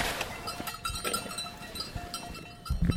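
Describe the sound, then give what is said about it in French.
A mixed flock of goats and sheep, the goats small, brown and horned, with bleats rising over a steady, busy background of shuffling and faint metallic bell tones, moderately loud throughout. “Les petites avec les cornes, c'est les chèvres non?”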